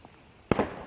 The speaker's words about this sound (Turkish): Ateş sesini duyunca olduğu yerde kalıp endişeyle sesin geldiği yöne döndü.